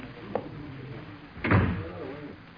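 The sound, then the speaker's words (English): A door swings shut with a solid thud about halfway through, preceded by a faint click, set against a low background hum. “Close the door, Crow.”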